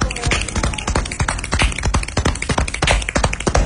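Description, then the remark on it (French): A wooden table creaks and clicks during a conversation at Le Monde diplomatique about the April issue, number 625, a dense run of irregular ticks and small knocks that continues steadily for a few seconds, with no clear voices on top. “Voilà, vous entendez une conversation et des grincements de table, et donc on est au Monde diplomatique autour du numéro du mois d'avril.”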